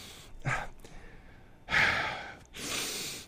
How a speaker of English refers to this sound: I'm doing deep breathing. For those of you who get panic attacks like I do, this is great. This is deep breathing. You just do this.